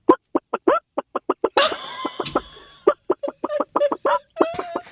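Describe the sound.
A person imitates a hen, starting with a quick run of short, regular clucks, breaking into a louder drawn-out squawk, then returning to rapid clucking. Fairly loud, with no other talk.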